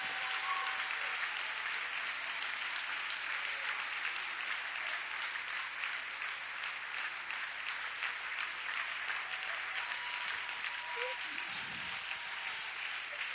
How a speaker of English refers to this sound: Now, would you lay that Bible down and give the Lord a 30-second thunderous round of applause?